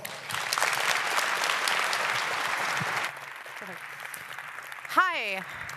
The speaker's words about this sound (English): Please give a really warm round of applause